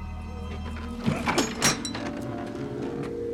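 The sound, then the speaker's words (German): A stocky man unlocks and opens the door of a house with a broken facade: a short cluster of metallic clicks and rattles, a few sharp transients over about half a second, set against a steady low hum. “Der Stämmige schließt die Tür auf,”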